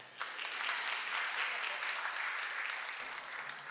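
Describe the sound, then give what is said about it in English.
A crowd claps steadily during a live worship song performance, a dense wash of many hands applauding at an even level for several seconds with no voices standing out. “You're free to clap.”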